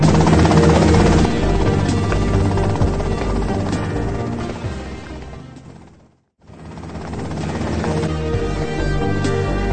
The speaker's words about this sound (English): Okay, that's them and the chopper.